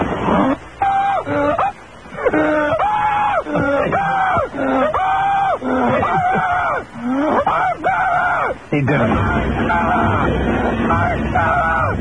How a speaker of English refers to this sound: He did it. Ladies and gentlemen, he's alive. He has landed successfully. He did it. He's alive. I know that his scream of joy might have confused some of you,